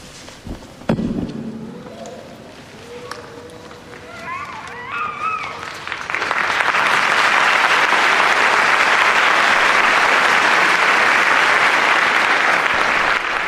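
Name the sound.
church audience applauding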